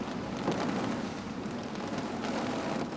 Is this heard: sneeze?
no